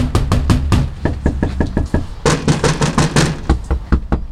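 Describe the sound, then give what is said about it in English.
A rapid series of loud knocks on a wooden front door, in two bursts of repeated raps with a short pause between them, no voices present; a Bernie Sanders campaign canvasser knocking door after door, walking slushy sidewalks. “She knocks on door after door.”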